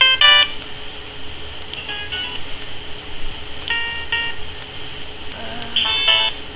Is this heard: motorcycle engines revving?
no